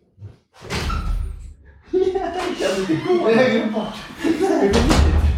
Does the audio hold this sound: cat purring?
no